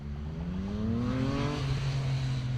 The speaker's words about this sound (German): Wer heute über die Innbrücke in die Innenstadt fährt, braucht angesichts von Autos und Verkehr viel Fantasie, um sich auf dem jetzigen Stadttheater und auf der Redoute statt der Dächer die Gärten vorzustellen.